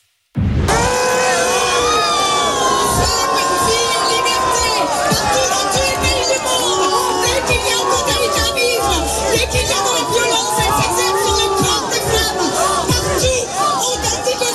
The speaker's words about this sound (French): Sandrine Rousseau, vous l'entendez, qui tente donc de s'exprimer, mais qui est huée.